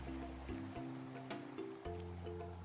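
A steady wash of ocean surf with soft swells and breaking rushes among rustling palm trees, accompanied throughout by low, sustained tones of music from afar, shifting between notes in the background.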